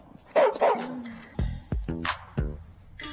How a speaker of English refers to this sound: This is my dog, Ferocious. You know why he got that name if you hear him bark.